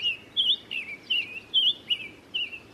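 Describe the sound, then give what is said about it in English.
A summer tanager sings a series of clear, whistled phrases, about six short notes in a steady, unhurried rhythm, moderately loud against a faint background hiss. “But when the birds return each spring to their breeding range in the southeast, lower Midwest, and southwest, bees and wasps once again face their nemesis in the summer tanager.”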